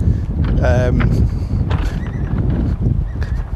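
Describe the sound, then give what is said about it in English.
Steady wind buffets the microphone outdoors on rocky ground with no path, a loud low rumble that runs through the whole recording, with a brief horse whinny rising near the start. “Is it too windy?”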